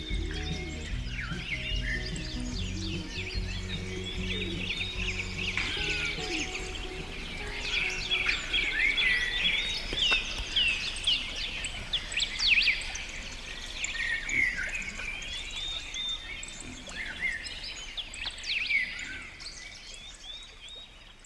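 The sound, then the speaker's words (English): Birds chirp and sing continuously, a dense chorus of quick, bright whistles and tweets overlapping at moderate volume, with several calls standing out more sharply midway through. “we want to thank them for lacing the world with beauty and filling the skies with song.”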